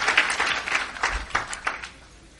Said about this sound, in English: Let me again seize this opportunity to welcome Royal Highness, our beloved brother and son and friend, and his wife. Let's give the Lord a big round of applause.